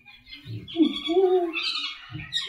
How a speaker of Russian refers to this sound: Вот это вот звук, это попугай.